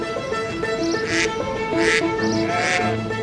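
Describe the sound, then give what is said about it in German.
A duck quacks several times in quick, uneven succession, its nasal honks fairly loud over a steady low background hum, with no talking; a duck such as the one Etienne and Joseph Montgolfier carried aloft with a rooster and a sheep in their hot-air balloon at Versailles. “Eine Ente, einen Hahn und einen Hammel.”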